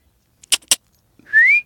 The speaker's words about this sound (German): Oh, nicht pfeifen